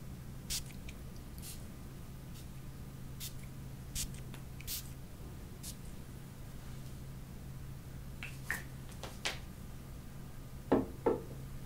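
A spray bottle mists into the air repeatedly to cool someone down on a hot, humid day of 34 degrees Celsius, with short, sharp hissing spritzes scattered irregularly over a steady low hum. A few quieter clicks mix in, and a couple of stronger bursts come near the end.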